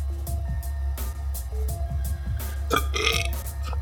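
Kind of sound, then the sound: human body sound, burp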